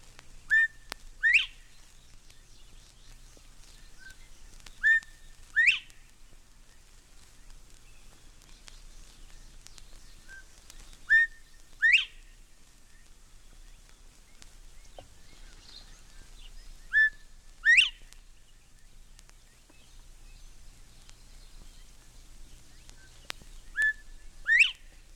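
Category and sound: bird, northern bobwhite whistled call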